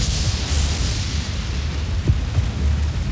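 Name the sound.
lightning strike and thunder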